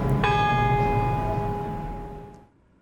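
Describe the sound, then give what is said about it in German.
A single church bell strike rings out from a neighboring tower, heard from a rooftop, its rich metallic overtones humming and slowly fading over about two seconds against a low background rumble. No one speaks. “Und als ich die Glocke vom Nachbarsturm hören schlage, weiss ich, dass ich jetzt gehen soll”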